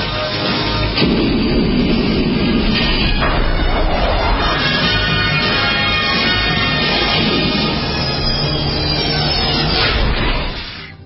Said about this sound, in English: There it goes, that DeLorean. Look, up in the sky, it's a bird, it's a plane. It's a DeLorean.